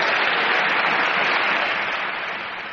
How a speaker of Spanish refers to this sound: Emoción han generado sus palabras en la bancada popular y en la bancada azul. La vicepresidenta ha sido la primera en levantarse y en provocar la ovación cerrada y en pie del PP a su portavoz, a quien también felicitaba con una palmadita en el hombro